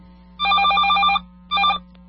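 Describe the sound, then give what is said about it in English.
A telephone rings with an incoming listener call to the live Rand Radio show: two trilling bursts of bright, warbling bell tone, the first about a second long and the second shorter, over a steady low hum. No one speaks. “There we go. There we go. We there got we someone go. Calling in.”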